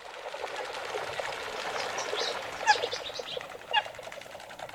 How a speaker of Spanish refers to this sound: Que si te fijas son diferentes, ¿eh? Sí, sí. Hay uno de un tipo. Hay varios pájaros. Varias matrículas de pájaros.